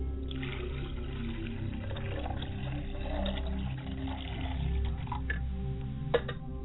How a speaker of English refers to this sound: I wash my hands to cleanse myself before I go before the ancestors.